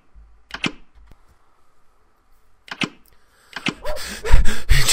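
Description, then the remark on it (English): Two sharp knocks on the front door of a house, a pause, then two more, followed by a louder jumble of rough, noisy bursts that fills the last seconds. No one speaks. “After knocking, Mrs. Baxter opened the door in a dressing gown”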